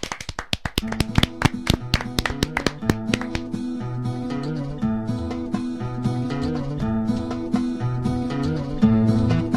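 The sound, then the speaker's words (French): A burst of sharp, evenly spaced hand claps rings out for about three seconds, then a steady musical passage with sustained tones takes over and continues to the end. No one speaks. “un tonnerre d'applaudissements pour Flo”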